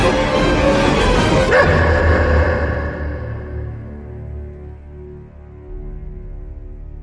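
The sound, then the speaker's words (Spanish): A dog barks loudly, a burst of sharp barks in the first couple of seconds, followed by a fading, ringing tail, reacting to a violently slammed door. No one speaks. “salió a la calle, dando un portazo tan violento que el perro no tuvo más remedio que ladrar.”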